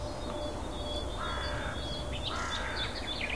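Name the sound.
crows cawing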